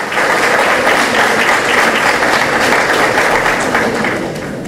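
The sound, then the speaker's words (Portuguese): A crowd applauds as a commemorative plaque honoring former mayor Gumercindo Romanini is presented by the sports secretary, a dense wash of many hands clapping at a loud, even level throughout, easing off slightly right at the end. No voices are heard. “Uma salva de palmas para ambos, por gentileza.”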